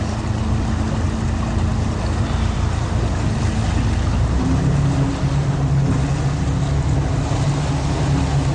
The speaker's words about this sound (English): Yes. And that day boat's coming in.